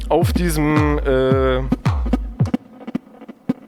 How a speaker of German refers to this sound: auf diesem Signal ist so ein Echo mit drauf. Das kommt aus dem Rechner. Ich drehe das mal trocken. Das hier ist das eigentliche Signal. Und mit dem Echo kann ich dem halt irgendwie mehr Kultur geben.